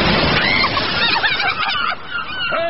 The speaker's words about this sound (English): Hey, you! What's that? Seagulls?